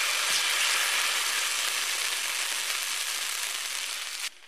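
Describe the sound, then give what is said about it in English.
Butter sizzles steadily on a hot griddle on the stove, a dense, continuous crackling hiss that holds at an even level before cutting off abruptly near the end. No one speaks. “Once your butter is nice and sizzling, you can spoon a little bit of your batter right onto your griddle and let it cook.”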